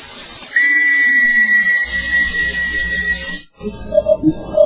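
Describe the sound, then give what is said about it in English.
A whistle is blown in one long, steady, shrill blast lasting about three seconds, wrapped in a breathy hiss, then cuts off and is followed by a few short, softer tonal chirps. “Well, let me blow my whistle and you just listen.”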